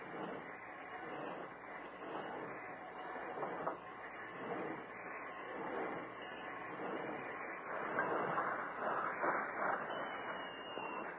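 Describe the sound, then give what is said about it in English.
A work train rolls along a railroad siding and comes to a stop with a steady, dense mechanical rumble and clatter, fairly loud, swelling slightly toward the end, with no voices. “Jack and Lou crouched behind some tall bushes near the siding and waited until the work train had rolled to a stop.”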